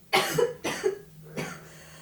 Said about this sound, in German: Wir haben hier eine kleine Patientin auf dem Sofa liegen. Nein, alles huste gut. Mal ab. Huste mal richtig ab. Kommt was mit? Ist es grün oder gelb?